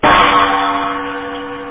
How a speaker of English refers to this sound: Stand by. It's time to bang the solder smoke mailbag gong.